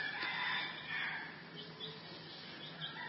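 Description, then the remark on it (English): A crowd of chickens clucks and crows continuously, overlapping calls forming a dense, busy chorus at moderate loudness, with no one speaking. “Just like these chickens for hours.”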